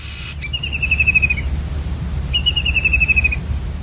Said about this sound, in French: Notre animal mystère du jour était le martin pêcheur, ou common kingfisher en anglais. C'est donc un oiseau qui peut faire jusqu'à 16 cm environ, la taille d'un moineau. Il est commun au bord de nos cours d'eau.